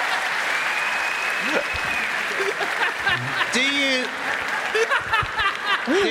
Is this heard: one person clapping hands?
yes